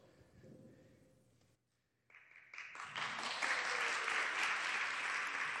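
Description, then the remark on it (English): After a quiet murmur and a brief silence, an audience breaks into applause that quickly swells into loud, sustained clapping lasting to the end, as a woman comes on stage to share. “You got to keep the applause while she's coming on stage.”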